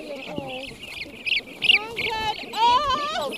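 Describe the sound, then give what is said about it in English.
A flock of molting brant geese, most unable to fly, calls in overlapping, nasal honks and gabbling cries that grow busier and louder toward the end as a team of biologists rounds the birds up and divides them into three separate pens. “start rounding up the birds and dividing them into three separate pens.”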